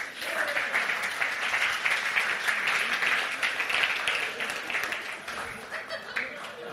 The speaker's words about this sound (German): Können wir ihm bitte einen großen Applaus geben?